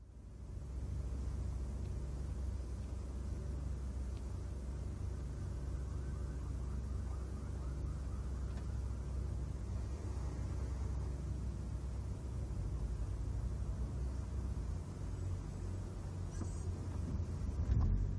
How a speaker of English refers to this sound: The car starts to move, passing an intersection where cars are stopped waiting at a light.